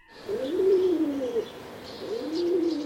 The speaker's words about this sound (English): I was in the backyard with the pigeons.